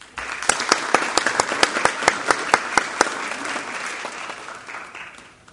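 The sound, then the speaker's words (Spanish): Audience applause at an awards ceremony for the company Abstracta, winner of the national company award "El talento no tiene género": a burst of many hands clapping with a few sharp, regular claps standing out at first, steady for several seconds before gradually thinning and fading away. “Un nuevo aplauso para Abstracta.”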